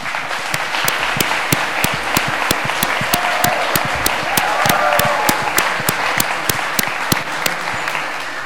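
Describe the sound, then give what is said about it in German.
An audience applauds steadily for several seconds after the second round of a team competition, a dense wash of many hands clapping with a few sharper, louder claps standing out regularly. No one speaks. “Und auf jeden Fall hier schon mal großer Applaus auch für die zweite Runde.”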